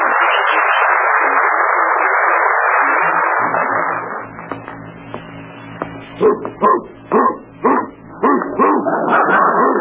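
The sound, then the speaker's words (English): A great Dane barks in a quick run of loud, evenly spaced woofs mixed with whimpering, following several seconds of steady hiss-like noise. “Oh, wait till Charlie sees this great Dane I got him.”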